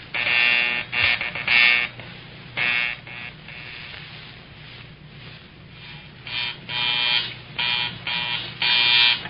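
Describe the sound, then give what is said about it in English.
A field telephone's harsh ringing buzzer sounds in repeated bursts of uneven length during a check of the phones between stations, loud and raspy, with short pauses between rings and a low steady hum underneath. No one speaks. “Hang up and see if you can hear the others as I ring them.”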